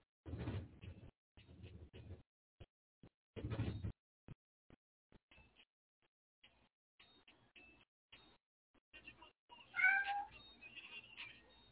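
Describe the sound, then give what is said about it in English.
Cats meow repeatedly and insistently, a rising, tonal cry standing out near the end, with scattered clattering and bumping noises in between. No talking. “Oh, the kitty cats are starting to go crazy.”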